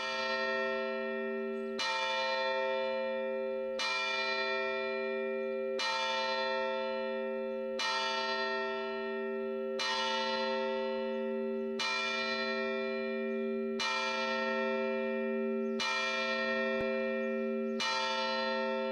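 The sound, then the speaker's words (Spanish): A church bell of the San Andrés Apóstol church in the Bajo Albaicín of Granada tolls steadily about every two seconds on 28 May 2017, ringing for the first time in 18 years. Each strike rings out with a rich, lingering hum that overlaps the next. Fairly loud, with no voices. “El 28 de mayo de 2017 volvieron a sonar las campanas de San Andrés Apóstol en el Bajo Albaicín de Granada.”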